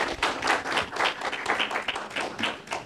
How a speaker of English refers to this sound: I see we got a whole bunch of Tiger Woods fans out here this morning. Y'all praising God like y'all clapping for him out there.